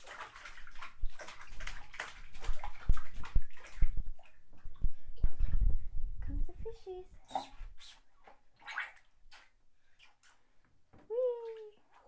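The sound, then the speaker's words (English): Water splashes and sloshes in a bathtub in a busy run of wet slaps for several seconds as a young boy splashes, then quiets as he makes short high vocal sounds. “Want mommy to splash? Splash, splash, splash, splash, splash, splash, splash.”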